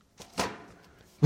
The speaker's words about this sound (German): hat richtig gestaubt beim Hinlegen. Ich hab mal den Knall gehört, da ist ordentlich Staub rausgekommen.